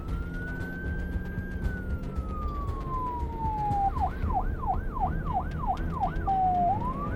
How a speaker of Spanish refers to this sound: Su miedo se intensificó cuando escuchó sirenas. Se trataba de un operativo policial costarricense.